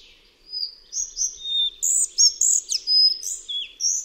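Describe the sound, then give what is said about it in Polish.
A bird sings a busy, high-pitched strophe of rapid chirps and trills, mixed with clear, drawn-out whistles that slide downward, loud and continuous with no voices present. “Ponieważ zwrotki wydawane są stosunkowo rzadko, właśnie owe melancholijne gwizdy wypełniające czas między nimi są najczęściej pierwszym słyszanym w terenie głosem tego gatunku.”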